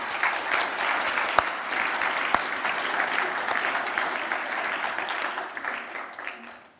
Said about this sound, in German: Und ich habe so gedacht, Wahnsinn auch, was die Mitarbeiter da alle gemacht haben und wie viel dabei waren. Ich denke, wir können einfach nochmal uns ganz herzlich mit einem Applaus bedanken bei euch.